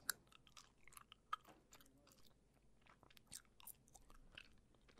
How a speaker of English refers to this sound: Anyway, would you like some gum? I feel so rude chewing this right next to you.